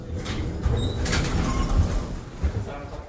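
elevator doors sliding open

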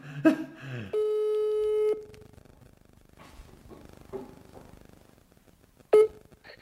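telephone call ringing tone

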